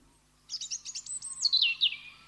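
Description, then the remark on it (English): Phalarope calls: a quick run of high, sharp chirps, roughly ten notes in fast succession, ending in a few slurred, descending notes. Clear, with no voices. “And thus we say, Happy Father's Day today to the phalaropes.”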